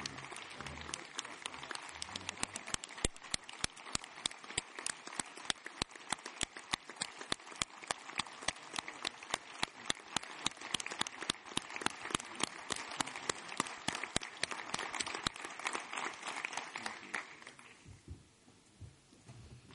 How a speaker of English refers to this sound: Join me in a round of applause.